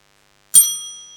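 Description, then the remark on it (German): A school bell gives one bright, ringing strike marking the start of the second lesson, hanging in the air and slowly fading away. No voices, just the clear metallic tone after a moment of silence. “Die Schulglocke klingelt, die zweite Stunde beginnt.”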